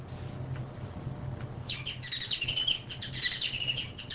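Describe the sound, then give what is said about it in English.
A Bengalese finch, a domesticated bird, sings a rapid string of high, buzzy chirping syllables, starting about midway and continuing to the end, clear over a low background hum. “Okay, and the Bengalese finch is not even really a species. It's so domesticated.”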